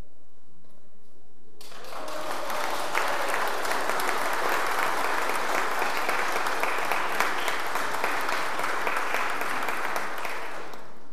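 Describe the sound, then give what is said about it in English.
After about a second and a half of near silence, loud audience clapping bursts in and holds steady as a dense, crackling wash, with some cheering mixed into the applause, congratulating a couple on their golden wedding. “So we're just going to have to clap and cheer very loudly.”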